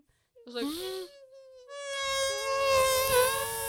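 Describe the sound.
A voice imitates a buzzing mosquito, made with the front teeth resting lightly on the lower lip and some space left, a sustained, whiny drone that rises and wavers, briefly breaking off before resuming louder and steadier, fairly loud with no other talk.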